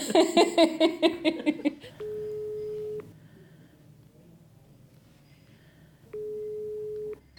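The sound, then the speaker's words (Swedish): Two long, steady telephone ringing tones about three seconds apart, each lasting around a second, clear, after a brief burst of laughter at the start, heard while placing a call. “Så jag ska ringa till honom.”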